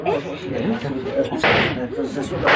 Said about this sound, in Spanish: ¿Eh? ¡Alguien está arriba! ¡Maldición! ¿Qué sucede? ¿Qué pasa? Disparos, ¿eh? Disparos. Sí, deben ser los agentes rivales de la CIA.